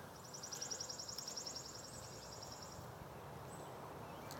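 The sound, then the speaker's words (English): A bird sings a rapid, high-pitched trill of repeated chirps for a couple of seconds, then gives one short extra note, all over a steady wash of rumbling morning traffic noise in Franklin, Massachusetts, on a foggy, hazy Friday in June with light rain starting. “And amongst the morning traffic, you should be able to hear the birds.”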